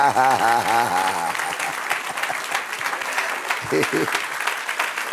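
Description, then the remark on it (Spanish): A church audience breaks into steady, sustained applause when the preacher says the kingdom of God has come to them, a dense crackle of many hands clapping at once, with a man's voice speaking briefly at the start and again near the end. “Hubo aplauso cuando dije que el reino ha llegado a nosotros.”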